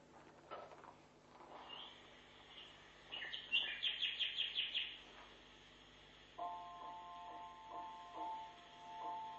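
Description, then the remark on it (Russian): A nightingale sings outdoors, a rapid burst of sharp repeated notes followed by long, pure whistled tones, clear over a quiet background hum, with no voices. “Вот это соловей.”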